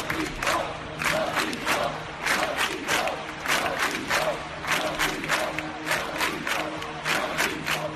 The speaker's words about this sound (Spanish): Este es el grito emocionante, vibrante, que salió ayer de las bocas de miles de personas que se congregaron en la Plaza de Cataluña para guardar un minuto de silencio por las víctimas de los atentados de Barcelona y de Cambrils.